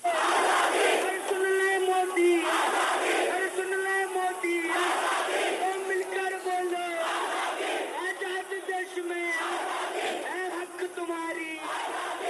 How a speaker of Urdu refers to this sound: یہ جواہر لال نہرو یونیورسٹی کی طلبہ یونین کے سابق صدر کنہیا کمار کا آزادی کا نعرہ ہے جو آج پورے ملک میں گونج رہا ہے. وہ جہاں بھی تقریر کرنے جاتے ہیں ان سے اس نعرے کی فرمائش کی جاتی ہے.